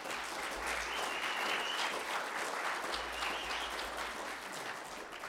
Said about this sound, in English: So if you guys are here to help out with that, it's an amazing thing that we did. So we want to give them a round of applause as well.